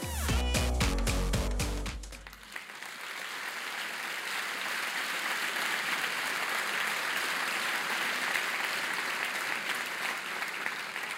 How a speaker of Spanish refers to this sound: No dejen de aplaudir, ¿eh? Un fuerte aplauso para el premio Cinemira 2019,